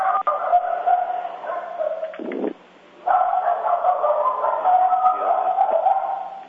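A dog barks and yips almost continuously, sounding thin and muffled as if over a phone line, with one short pause partway through.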